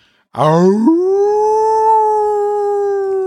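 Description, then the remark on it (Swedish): A single wolf howl rises sharply, then holds a long, steady, sustained tone that slowly fades in pitch; loud, with no talking. “Det var en varg, om någon undrar.”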